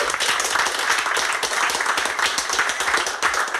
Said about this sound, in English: If I may come to a previous podcast guest who's having a bit of a relaxing night after 6 hours in the House of Commons yesterday debating this issue. Yeah, a round of applause, I think.